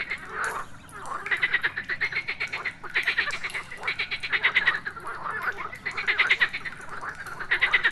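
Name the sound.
frogs croaking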